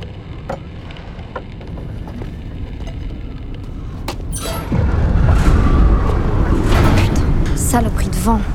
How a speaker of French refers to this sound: La tempête s'annonce terrible.